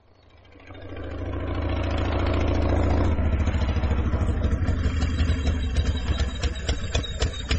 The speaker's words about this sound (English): What's that you've come on? What's it look like? Cross-country motorbike. Quadricycle. Oh, it's got grand thick tyres.